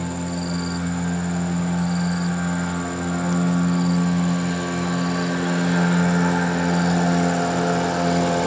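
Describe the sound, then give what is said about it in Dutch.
An arriving boat's engine drones with a steady, low, layered hum that swells slightly louder partway through and holds there. No one speaks. “Er komt weer een boot aan, ik wacht heel even.”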